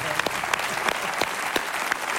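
An audience claps steadily, a dense, sustained patter of many hands with a few sharper individual claps standing out. The applause holds at an even, moderate level throughout.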